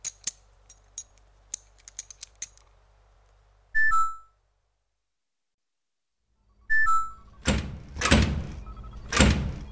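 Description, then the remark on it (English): A run of small mechanical clicks, then two electronic beeps from a door keypad with a pause between them, followed by loud rumbling scrapes and thuds as a stuck door that won't close is forced shut. No one speaks. “Anyway, your door won't close? You slammed it, didn't you?”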